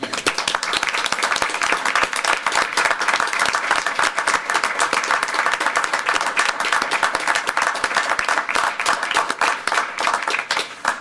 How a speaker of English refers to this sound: So thank you all, every single one of you, every person in the building. Anybody whose name was mentioned, please stand up and get a round of applause.